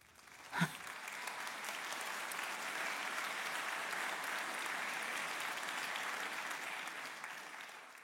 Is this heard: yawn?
no